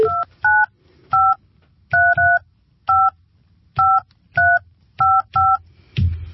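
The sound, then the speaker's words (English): A phone number is dialed on a keypad to call a contest finalist on Algoa FM radio: about a dozen crisp touch-tone beeps at uneven intervals, fairly loud, with no talking, ending in a brief rustle. “Got the right number.”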